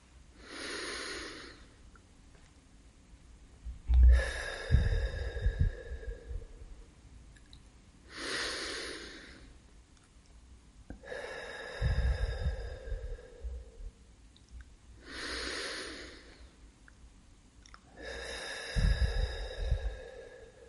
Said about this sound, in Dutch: Breng je aandacht naar je ademhaling. En adem 3 keer stevig in en uit.